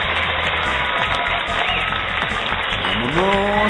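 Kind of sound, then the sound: crowd, applause ovation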